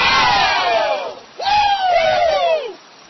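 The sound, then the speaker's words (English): A rally crowd cheers loudly in two long, sustained swells, voices rising together and then sliding downward in pitch, with a brief dip between the bursts. “You'll notice they're not cheering McCain.”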